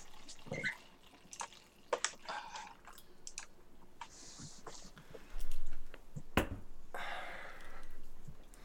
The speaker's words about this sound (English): Alright, the sweet tea has been poured. Here's the sweet tea. It's now been poured.